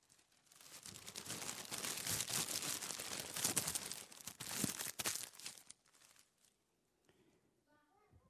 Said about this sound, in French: Je vais vous faire entendre le bruit de sa vie. Et je vais demander à un enfant de me froisser cette feuille et vous allez écouter le bruit.